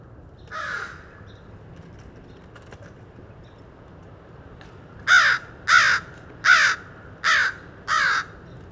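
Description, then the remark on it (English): A single crow sitting by Morgan Road caws once, then after a pause lets out five loud, harsh caws in a steady rhythm, recorded from a car, over a quiet outdoor background hum. “Just a few more calls from the same crow”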